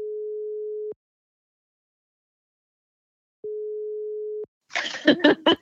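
phone call ringing tone

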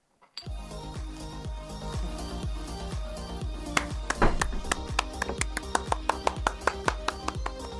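one person clapping

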